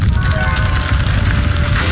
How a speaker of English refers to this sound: That rocket is so loud.